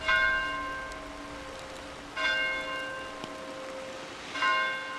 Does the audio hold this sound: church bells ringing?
yes